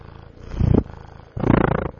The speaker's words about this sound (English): Okay, Pipey's purring. She's a happy kitty